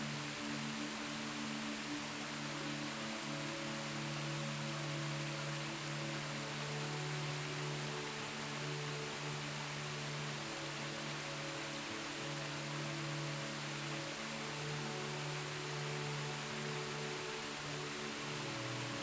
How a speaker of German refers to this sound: Lass die Geräusche des Wasserfalls deine Gedanken übertönen. Sie führen dich in einen Zustand tiefer Entspannung.